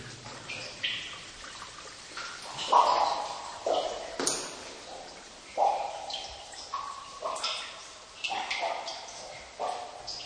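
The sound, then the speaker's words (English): Water drips in glowworm caves, single drops falling at an irregular pace, each a clear, ringing plink with a hollow echo, moderately loud over a quiet background. “And now we're moving down actually into the glowworm caves, and you can hear the sound of the water dripping in the caves as it has been doing for probably millions of years.”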